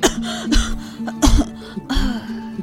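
An old man coughs several times, three or four harsh, raspy bursts with a throaty, hoarse edge and brief pauses between them, no talking.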